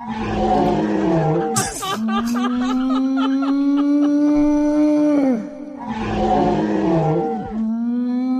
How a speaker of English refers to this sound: To really calm you down, I present to you the sound of an elephant in rut.